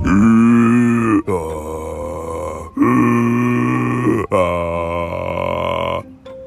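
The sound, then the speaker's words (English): A person imitates a snow monster's heavy breathing in an icy cave: four long, loud, growling breaths in a slow, steady rhythm, with no other talk. “And then pretty soon, oh my gosh, he could hear something breathing like this.”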